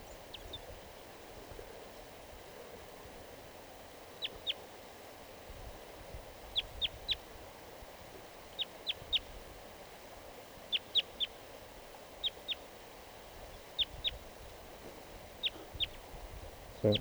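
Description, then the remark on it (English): A wild crossbill sings from a tree behind a net in repeated bursts of short, high, sharp chirps, grouped in twos and threes at a steady pace over a low, rumbling background hum. No one speaks. “Into song.”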